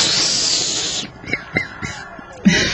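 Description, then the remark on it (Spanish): A voice imitates a chick taking a drag of marijuana: a long, loud, breathy hiss of an inhale, then a few short squeaky peeps, and a final rush of breath. “Y se pega una aspirada de pollito.”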